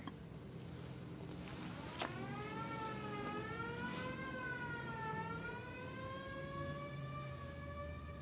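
Fire engine sirens wail continuously, their tone slowly rising and falling over a steady low rumble of traffic, with no voices heard.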